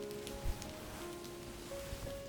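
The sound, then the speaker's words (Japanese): Light rain, weakening after a heavier shower, patters steadily and softly on surfaces, a quiet continuous drizzle with occasional slightly louder drops and no voices. “ま、雨足も弱まったし今ならそこまで濡れないとは思うが。”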